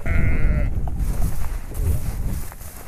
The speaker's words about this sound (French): Là, on est comme des marcheurs sur la Régordane. On marche sur un bout de terrain, là, et on voit des brebis avec leurs agneaux.